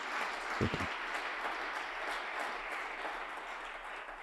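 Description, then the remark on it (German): An audience gives a big round of applause for a guest's first appearance on the show: a dense wash of many hands clapping at an even level for several seconds, with a brief low thump near the start and no one speaking. “Es ist seine Deliktpremiere und deswegen darf ich noch einmal bitte um einen großen Applaus bitten.”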